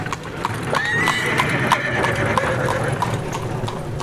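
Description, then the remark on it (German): The hooves of a horse-drawn carriage clip-clop at a steady trotting rhythm over the cobblestones of an old street, clear, with a brief whinny rising above a constant murmur of background noise. “Ich kann mir richtig vorstellen, wie hier die Pferdekutschen über die Pflastersteine gerumpelt sind.”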